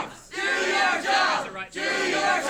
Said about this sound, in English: Yeah, it's impossible to hear anything. Basically, they just flooded the county courthouse and yelled at a lady.